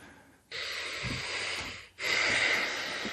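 Two long, forceful breathy exhales, each a broad hissing rush of air after a brief pause, the second louder and harsher than the first, with no talking.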